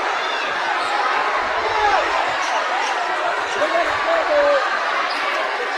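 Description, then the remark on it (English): A home crowd at a basketball game cheers in a loud, steady roar that fills the whole stretch, with scattered higher shouts rising briefly above the dense wash of voices. “Well, the crowd, our crowd over the other side. It's got involved there. Yeah, they're into it now.”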